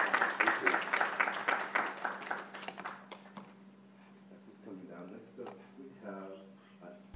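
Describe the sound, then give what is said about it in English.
A loud burst of audience applause for a guest, dense overlapping claps lasting a few seconds, then dying away as someone starts talking over a steady low hum. “Let's give you another round of applause.”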